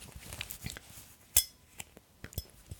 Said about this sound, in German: Ich hätte gern so ein klirrendes Geräusch, das man angestoßen hat. Aber ich habe nichts an anderem Glas hier. Oh, damit?